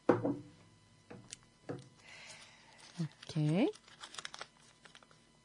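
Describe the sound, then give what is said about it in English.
Crinkling and rustling of paper entry slips being shuffled for a prize draw in short, irregular bursts, with a voice briefly speaking in between. “Okay, just being fair enough. Just shuffling.”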